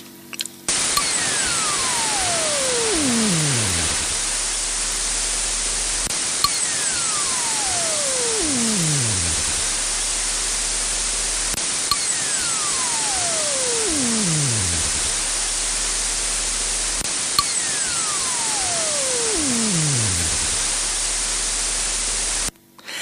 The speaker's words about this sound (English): This might make the technology available to more users with off-the-shelf cryocoolers. Let's listen again to the quantum whistle.